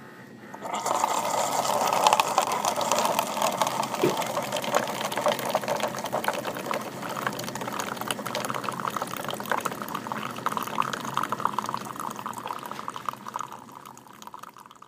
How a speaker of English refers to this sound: The light smell of coffee washed from the machine as Deanna runs water through to clean it.